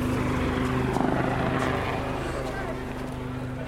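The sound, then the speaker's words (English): A Navy Wildcat helicopter of the Black Cats display, from 825 Squadron at Yeovilton, flies overhead at an air display in the 2019 season, its turbine whine and thudding rotor drone steady and loud throughout, with faint crowd or commentary noise mixed beneath. “With the Navy Black Cat display now in the air,”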